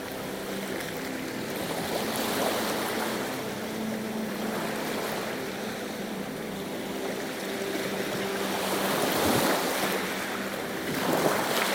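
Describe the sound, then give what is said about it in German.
Steady roar of ocean surf washing onto the shore, with waves swelling and breaking in slow surges under a constant hiss of wind and spray, no voices present. “Du atmest den salzigen Geruch des Meeres ein.”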